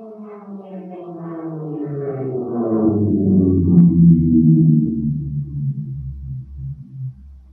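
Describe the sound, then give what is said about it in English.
A jet airplane passes by, its droning, layered tone growing louder and sliding steadily downward in pitch, peaking midway, then settling into a low rumble. No one speaks. “similarly, if you listen to, say, a jet airplane, now normally they're too high to tell, but if one comes near you, say you're at an air show or something, does the pitch of the airplane change as it comes towards you and goes past?”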